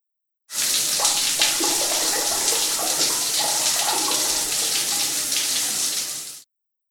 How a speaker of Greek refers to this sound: Ντουζ.